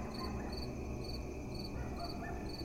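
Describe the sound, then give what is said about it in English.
Crickets chirp in a steady, evenly spaced rhythm against a dense nighttime background hum, with no voices present. The chirping is moderate in volume and continuous throughout. “It is night, late at night, and the crickets and coyotes and the cool breeze all harmonize to serenade the ended day.”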